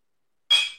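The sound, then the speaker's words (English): A single bright clink of glasses touching in a toast with Aperol cocktails garnished with lime, ringing briefly and fading over a fraction of a second, clear after a moment of silence, with no voices. “Let's give it a shot. Cheers to Philly. Cheerio.”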